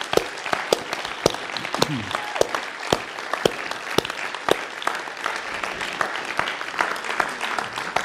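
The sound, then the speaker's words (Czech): An audience at Family Fest claps steadily for several seconds in respect for people who shared their stories, a dense wash of overlapping handclaps with sharp individual claps popping out, holding at an even, moderate loudness throughout. “a já bych možná vás poprosil, kdybyste jim vyjádřili respekt, i když tady většina z nich nesedí dneska, pořádným potleskem za jejich statečnost a za jejich příběh.”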